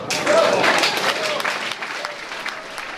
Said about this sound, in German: Der Applaus ist verhalten, der Entscheid ist knapp, die Hälfte der Leute ist wütend.